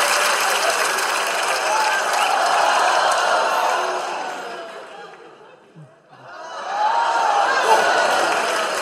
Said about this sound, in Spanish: Fuerte aplauso para ella.